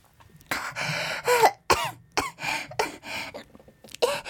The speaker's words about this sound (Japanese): ちょっと興奮しちゃって咳出ちゃった。